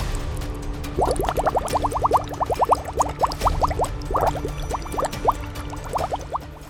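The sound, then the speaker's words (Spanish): Thick dark green liquid bubbles and pops continuously in a cauldron in a dark, damp cave, a rapid irregular stream of gurgling blips over a low rumbling bed, steady throughout, with no voices. “Llegaron a una cueva oscura y húmeda donde había un caldero rebosante de un líquido verde oscuro burbujeante.”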